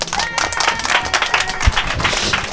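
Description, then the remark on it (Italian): An audience applauds the day's guest, a DJ, on a show, a dense wash of many hands clapping at once with a few faint cheers mixed in, sustained and fairly loud throughout. “Un altro applauso.”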